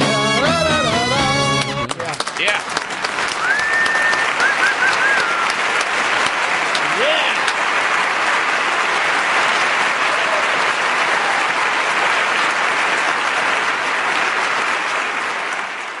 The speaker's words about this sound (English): If you would, please, a nice, courteous round of polka appreciation applause for ….